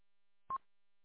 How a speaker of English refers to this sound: The double beep means you got your encryption turned off.